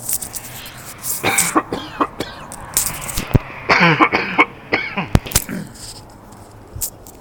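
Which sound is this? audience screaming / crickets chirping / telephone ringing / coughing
coughing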